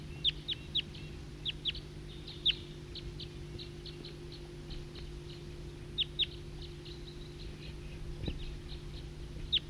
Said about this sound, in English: It's a recording, flock of wild birds.